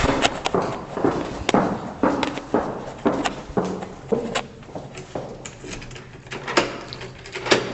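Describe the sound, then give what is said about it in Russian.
The heavy metal entrance door of apartment 161 on the 12th floor is handled and opened, with a series of irregular clunks, knocks and scraping shuffles, some sharp metallic hits standing out. “Входные металлические двери, такие увесистые.”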